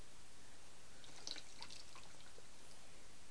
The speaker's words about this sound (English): Put the towel away and dump the water. And we're all set.